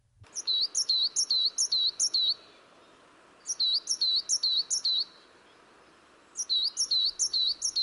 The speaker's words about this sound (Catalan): aquest ocell em sona d'haver-lo escoltat bastant proper a on estem nosaltres, no sé... Doncs sí, aquest ocell és una mallarenga petita. És una de les mallarengues que tenim.